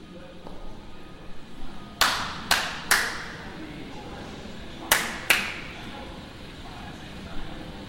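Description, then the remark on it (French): Five sharp hand claps ring out with reverberation, a quick group of three followed after a pause by two more, each with a bright attack and echoing tail over low background noise; they invite Nicolas Schoeffer's 1956 cybernetic robot, the 6P1, to dance at the Artistes et robots exhibition, Grand Palais. “Alors je claque des mains pour inviter à danser avec moi le robot de Nicolas Schoeffer, un robot déjà ancien, 1956, le 6P1, qui était le premier robot cybernétique, c'est-à-dire une sculpture qui a un cerveau électronique”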